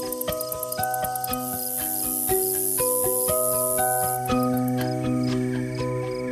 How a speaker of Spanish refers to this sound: Y sin hacerle ningún caso a su amiga, la cigarra siguió en lo suyo, es decir, se puso a cantar.